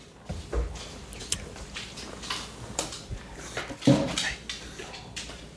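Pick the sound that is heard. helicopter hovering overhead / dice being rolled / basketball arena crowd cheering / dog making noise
dog making noise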